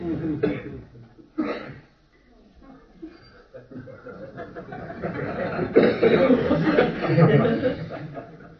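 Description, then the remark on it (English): A couple of sharp coughs burst out near the start, then a longer, ragged run of throaty coughing builds and swells, sounding almost like strained chuckling. “This is your PC's cough.”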